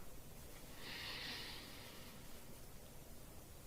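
A single deep breath drawn in during a breathing exercise, a soft airy hiss lasting under a second, quiet against a low, steady background hiss, with no talking.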